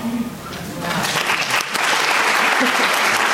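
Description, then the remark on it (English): Audience applause builds into a dense, steady wash of clapping, many hands striking at once in a bright, continuous patter with a few faint voices underneath. “Clap for you.”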